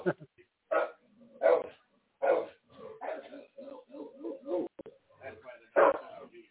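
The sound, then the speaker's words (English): A dog barks repeatedly in loud, sharp bursts, with quieter yips and whines between them and a voice talking over parts of it. “Oh, I see the dog is really working, huh?”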